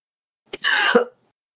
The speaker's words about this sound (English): I'm so sorry. I don't know why I'm coughing so much this morning.